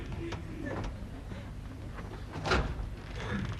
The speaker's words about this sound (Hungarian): Jaj, hát ez ki lehet? Reddiként nyissom már ki az ajtót.